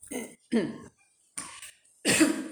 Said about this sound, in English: No point in stepping back to cough when there's not actually a microphone right in front of me, but never mind.